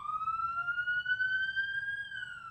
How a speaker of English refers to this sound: We had a fire truck go by here yesterday, so I don't know if this is a fire truck or an ambulance. Well, we'll give it just a second for them to get on by. They're not moving very fast.